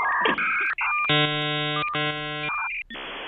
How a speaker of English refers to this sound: Yeah, and I love the telephone hookup modem. Yeah, the hookup modem is great. It sounds like they're killing an alien.